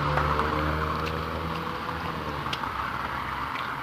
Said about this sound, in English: More cars.